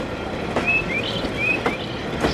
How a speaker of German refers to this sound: Der nicht ganz unbeträchtliche Lärm der Züge auf der beliebten Ferienroute Hamburg-Sylt ist es aber nicht, was Grundstückseigentümer Dieter Schwohn auf die Palme bringt. Wir donnern ungefähr im Sommer 70 Züge drüber